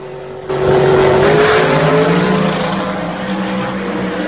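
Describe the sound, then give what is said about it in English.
MMR's five-second Ford Coyote-powered race car accelerates hard, its engine bursting in abruptly after a brief lull and holding a loud, high-revving roar whose pitch climbs slightly before leveling into a steady drone. “Because you guys want to name that name like if it fucking matters, then let's give MMR their fucking praise for their 5 second coyote.”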